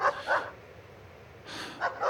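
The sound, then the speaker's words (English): A dog barks in two short clusters of sharp barks separated by a pause, moderately loud, with no one speaking. “I hear this one dog, and I'm worried about them.”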